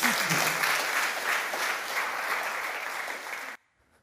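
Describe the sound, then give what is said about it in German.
An audience claps steadily, a dense wash of many hands sustained for several seconds at a fairly constant level before cutting off abruptly into near silence. “Merci und einen Applaus für Anita.”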